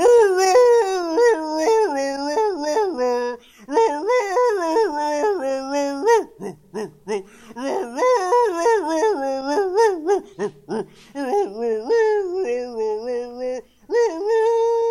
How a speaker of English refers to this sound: So, without further ado, I'll introduce to you Pineapple the Wonder Dog singing the stirring Pineapple song. Take it away, Pineapple!